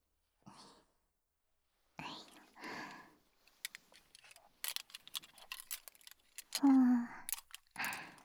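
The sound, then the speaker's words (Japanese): Soft whispering gives way to a quick, irregular run of crisp snipping from thinning scissors cutting hair, including trimming the bangs, bright and clicky, followed by more quiet whispering with a brief voiced hum. “あとはすきばさみと前髪の方も整えていくね。”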